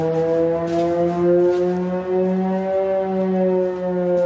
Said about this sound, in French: Dans le village de Lipsi, à 20 km de la frontière avec la Russie, les sirènes d'alerte ne s'arrêtent presque jamais.